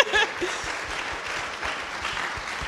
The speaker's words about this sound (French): Bon, on peut les applaudir parce que vraiment, oui, merci.